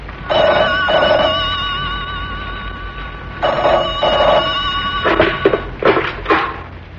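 A telephone rings in two double-burst cycles, its warbling tone clear, followed by a few sharp knocks and clatters near the end. No one speaks.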